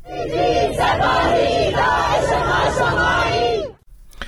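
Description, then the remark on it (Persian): A crowd in Chitgar township, western Tehran, chants slogans against the ruling establishment on Monday evening, in unison, loud and rhythmic, voices rising and falling in repeated phrases for several seconds before cutting off abruptly. “شهرک چیتگر در غرب تهران نیز شامگاه دوشنبه بار دیگر شاهد تجمع اعتراضات مردمی بود که علیه حاکمیت شعار سر دادند”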